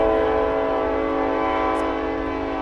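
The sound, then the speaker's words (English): A train's horn blares loud in one long, unbroken chord, with the low rumble of the moving train running underneath the whole time, at an old railroad stop in Augusta, Kansas. No one speaks. “It was an old railroad stop, Augusta, Kansas.”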